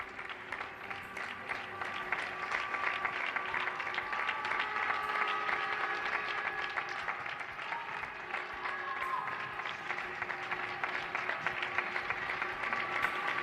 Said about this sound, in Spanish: Aplausos emocionados al personal sanitario y a aquellos que están trabajando en estos momentos para los demás desde el barrio de Usera,